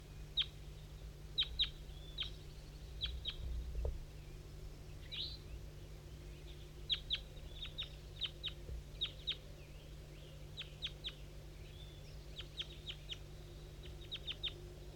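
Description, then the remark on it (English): Birds call in short, sharp chirps that come in loose clusters throughout, some fainter and more distant than others, over a steady low hum with no talking; a wild bird sings far off down a hollow, straight to the southwest. “Mostly 5-3 here, and the wild bird's way in the distance, but in the same direction as 5-3, straight to the southwest.”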